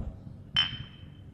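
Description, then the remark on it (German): A single bright clink of beer glasses knocking together in a toast, with a clear ringing tone that lingers and fades over low background noise. “Genau, aber zuerst einmal trinken wir eins, weil Krise wird erst dann besser, wenn man mal Prost. Ein Bier getrunken hat.”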